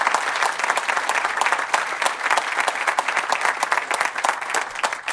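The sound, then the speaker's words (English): A large audience claps steadily, giving a big round of applause for the hard work put into the event: a dense, sustained wash of applause from many hands that stays loud and even for the full few seconds without any voices on top. “a big round of applause for all of the hard work put into this.”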